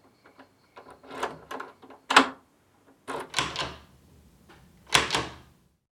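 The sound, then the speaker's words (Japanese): A front door opening onto a second-floor hallway is unlatched and pulled open: a series of clicks and rattles, a sharp knock of the latch, then creaking and scraping bursts as it swings, ending with a final thud. No voices. “俺は意を決して扉を開けた。”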